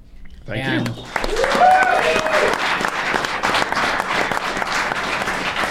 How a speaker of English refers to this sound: The clapping means we're done.